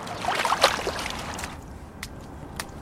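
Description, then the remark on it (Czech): Water sloshes and splashes in uneven bursts, busiest in the first second, then settles into lighter lapping with a couple of sharp drips or splashes near the end, as a person moves down a step, wading in above the waist toward shoulder depth. “Já jsem se vlastně dostal až prakticky vlastně už nad pas, takže zkusím ještě se teďka posunout po schod a potom se tam dostat pod ramena a uvidíme, co to se mnou udělá.”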